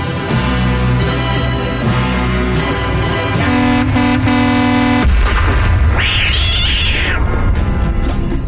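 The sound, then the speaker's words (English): A loud, steady musical passage cuts abruptly into a noisy clatter, then a single cat lets out a sharp, drawn-out yowl that rises and falls, like it has just been struck. “Why is it always a cat that gets hit by something, right?”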